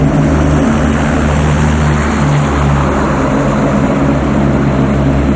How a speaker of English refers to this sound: Later, a helicopter flies over the city lights.